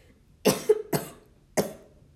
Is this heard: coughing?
yes